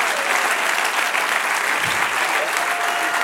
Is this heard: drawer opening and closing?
no